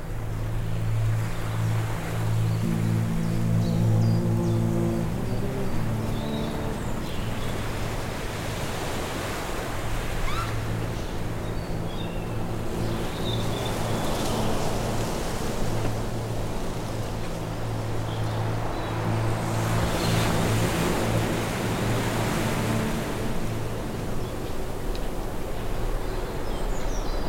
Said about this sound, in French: Le vent marin s'engouffre à travers les bosquets.